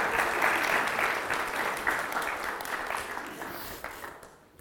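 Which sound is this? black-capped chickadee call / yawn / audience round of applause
audience round of applause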